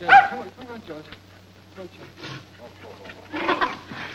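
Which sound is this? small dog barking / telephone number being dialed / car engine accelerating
small dog barking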